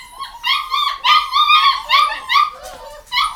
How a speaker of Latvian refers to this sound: Jā, šitie mums ir vācu aitu suņa kucēni. 11 gabali ir sadzimuši.